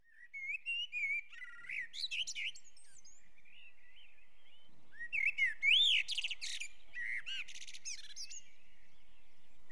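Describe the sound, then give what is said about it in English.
A blackbird sings in two clear bursts, each a mellow fluting whistle that breaks into a high, squeaky twitter, with quiet pauses between phrases and no voices. “So we'll have blackbird, Dartford Warbler, and stone chat coming up now.”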